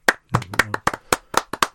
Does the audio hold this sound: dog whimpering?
no